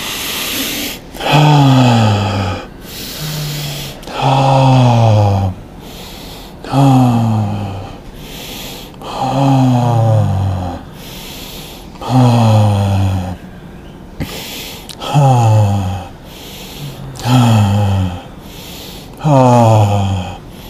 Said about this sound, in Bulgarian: Пълно йогийско дишане, добастрика дишане, както ти го усетиш. Пълно йогийско добастрика.